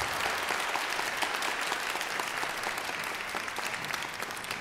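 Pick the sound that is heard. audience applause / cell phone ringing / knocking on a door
audience applause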